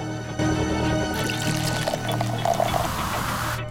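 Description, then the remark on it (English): Lemonade is poured into a glass in a local pub, a steady gurgling, splashing stream lasting a few seconds before it abruptly stops. No voices are heard. “Noroi and Chandler share a lemonade in the local pub.”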